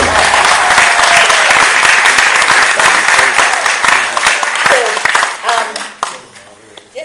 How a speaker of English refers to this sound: But you can applaud because we've done so well so far.